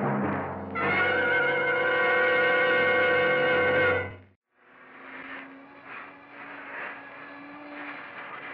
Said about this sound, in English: Turn that vacuum cleaner off for a minute, will you, and come over here.